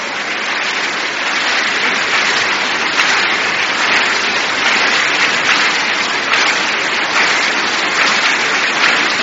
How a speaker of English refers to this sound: Thank you, those of you who are clapping. Your hands will never wither.